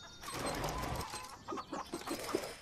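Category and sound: bird, hen clucking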